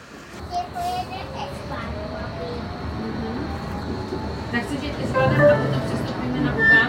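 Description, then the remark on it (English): Steady rumbling interior noise of a moving train travelling between Berlin and Leipzig, Germany, on a sunny day, with faint whining tones rising and falling and voices of passengers, including children, chattering in the background. “It's gonna be all in all 6 hours on the train from Berlin to Leipzig and back.”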